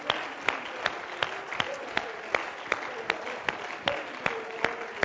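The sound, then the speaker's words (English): An audience clapping hands in praise in a steady rhythm, sharp claps about every third of a second over a dense wash of crowd noise and murmuring voices. “Clap your hands and give him praise again.”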